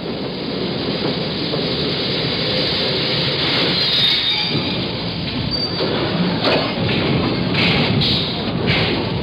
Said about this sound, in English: The subway rises from the tunnel and stops at 135th Street.